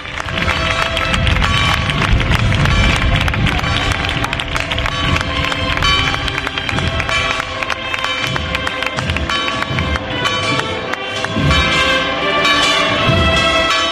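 Church bells of the Church of San José in the Extramuros district of Cádiz, Spain, peal loudly and continuously as the Borriquita procession sets off toward the official route, their overlapping metallic tones ringing out, with a bustling crowd murmuring and moving underneath.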